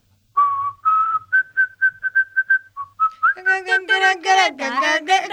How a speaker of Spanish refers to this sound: Escuchen, tengo otra canción para silbarles.